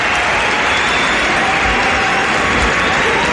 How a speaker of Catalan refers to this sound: Fora aplaudiment pels ocells!